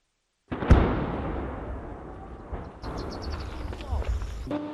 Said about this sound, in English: Despite the sound of explosions thundering in Ukraine's southeastern Zaporizhia region, agriculture machines keep driving towards the fields belonging to a farmer. He says there is an impact in the village nearby, just 500 meters away.